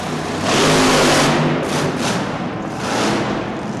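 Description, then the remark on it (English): A loud monster truck engine, running on methanol, roars and revs in heavy surges as the truck jounces its front wheels over parked cars, swelling strongly early on, easing briefly, then climbing again near the end, with no voices over it. “To get these monsters all kinds of vertical, the monsters have to jounce their front wheels over a huddle of parked cars.”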